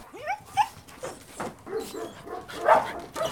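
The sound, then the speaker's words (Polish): Several dogs at an animal shelter bark and whimper in a busy, overlapping chorus, with short yips and whines mixed among louder barks, continuous throughout. “Może zobaczmy, co tam u psiaków. Ile ich tu jest i jakie to są psy?”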